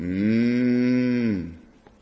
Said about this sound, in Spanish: Pues eran las vacas que tenía ahí que no había matado. Pues qué bramido de vacas. No, qué balido de ovejas es el que escucho yo.